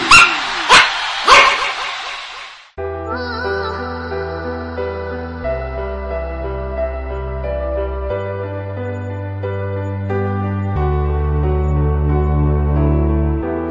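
A pack of dogs barks in a quick, loud burst of three or four overlapping yaps at the start, then falls silent as steady music with deep bass takes over.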